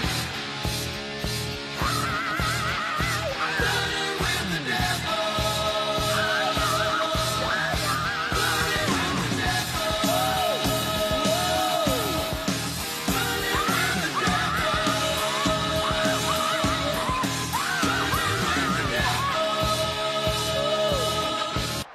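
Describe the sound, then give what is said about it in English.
A large Wisconsin crowd roars and cheers without pause, cheering on Bucky Badger, loud and dense, with many voices yelling and whooping in rising, wavering shouts over a steady wash of noise. “as Wisconsin is cheering on Bucky Badger.”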